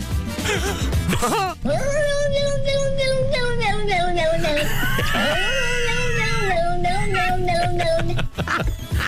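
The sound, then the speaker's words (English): A very large moggy cat, bought in Kerry about 2 years ago, lets out one long, loud, drawn-out yowl lasting several seconds, its pitch wavering and sliding up and down in a strangely speech-like, moaning way. “She bought a cat down in Kerry.”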